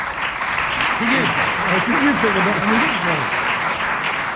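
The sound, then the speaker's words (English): Steady, dense applause from an audience fills the whole stretch at a fairly loud, even level, with a few raised voices calling out over the clapping in the middle. “Tumultuous applause there for.”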